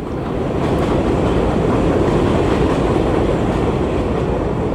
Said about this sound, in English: I'm on the side of the bodega, standing in front of Amadou's mural, and I have to stop recording every couple minutes. This is like my 4th take because of the train.